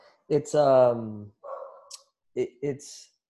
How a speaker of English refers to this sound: You got a dog in the gym? Dogs. There's a super cute dog. It's a German Shepherd and Pitbull. I've never seen it or seen one before. And it's like the perfect dog size. So she's in there barking up a storm.